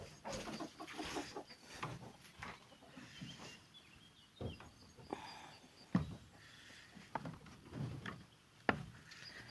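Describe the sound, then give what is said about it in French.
A second rooster, having just come down, clucks in short, irregular bursts over a quiet outdoor background, its calls fairly soft, with a few sharper clucks standing out near the end. “Le deuxième coq vient de descendre.”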